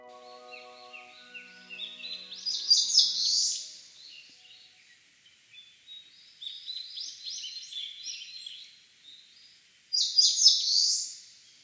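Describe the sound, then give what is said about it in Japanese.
An Eastern crowned warbler sings three bright, buzzy phrases in mixed woodland beyond a villa area toward the Nikko mountains, Nikko, Tochigi Prefecture, Japan, each rising to a loud burst at the end, with quiet pauses between them and no one talking. “聞こえてきたのは仙台虫食いのさえずりです。”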